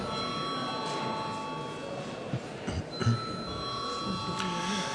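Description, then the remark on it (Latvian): A steady electric bell rings without pause for several seconds, a bright sustained metallic tone over a low murmur of voices and shuffling, rung in a legislative session to call deputies to a vote on a proposal. “Deputāti prasa balsojumu, lūdzu zvanu.”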